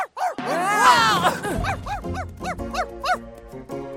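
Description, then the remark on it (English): A dog named Steve barks repeatedly, a rapid series of sharp, yappy barks in an uneven rhythm, with a brief whining yelp near the start. “Where's your dog? What? Oh, that's Steve. He likes to bark.”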